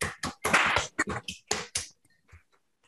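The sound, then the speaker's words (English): Scattered applause from an online audience unmuting after a talk, a quick burst of overlapping claps and taps for about two seconds, then a few faint isolated pats trailing off into quiet. “So let's all unmute to give him a round of applause for his great talk.”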